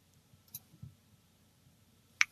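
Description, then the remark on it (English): A couple of sharp computer mouse clicks, one early and one near the end, separated by a quiet stretch with only a faint low rumble underneath, as someone clicks a trash can icon on screen. “Okay, clicking the trash can does nothing.”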